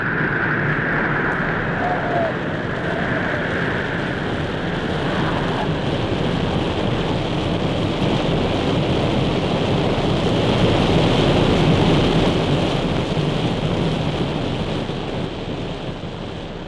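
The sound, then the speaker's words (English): Thunder rumbles beneath a steady, roaring rush of water, a dense hissing wash that swells slightly midway and stays loud throughout, with no voices. “And still, the pillar of fire continued to send out darts of lightning, peals of thunder. Suddenly, the water rushed together, hissing, roaring, eager to swallow up the Egyptian army in its black depths.”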